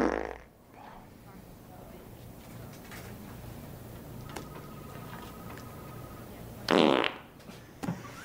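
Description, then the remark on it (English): A loud, blaring fart bursts out for under a second near the end, following a low rumble at the start and a quiet stretch of faint background hum, with a small pop just after. “You ever fart so hard your back cracks?”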